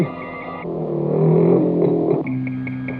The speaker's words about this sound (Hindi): बैठ जाओ, गाड़ी स्टार्ट हो गई है।